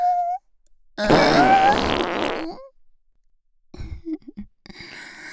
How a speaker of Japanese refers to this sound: 出ちゃった、 くさい、おなら、 いやだ、ほんとくさい、 ひどい匂いね、お鼻もげちゃいそうだわ。